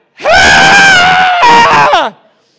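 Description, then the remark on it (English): A single voice lets out a loud, drawn-out mock-excited scream in two sustained bursts, the second trailing off with a falling pitch, an exaggerated imitation of a friend cheering at a surprise birthday party. “I had to keep screaming till it landed, all right?”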